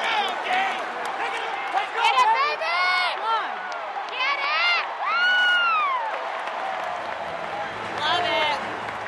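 A baseball stadium crowd at a Reds–Cardinals game cheers loudly, overlapping shouts and rising, falling whoops over a steady roar of noise that swells again near the end.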